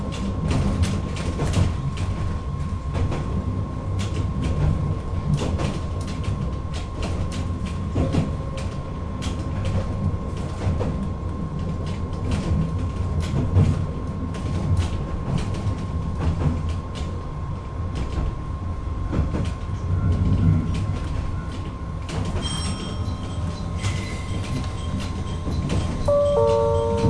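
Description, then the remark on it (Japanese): Inside an Isumi Railway local train as it runs, shortly before arriving at the terminal at Ohara: a steady low rumble with frequent clicks and knocks from the wheels, a thin constant whine, and a few high tones near the end. “まもなく終点大原に到着です。到着の際、出口付近の方は開くドアにご注意ください。”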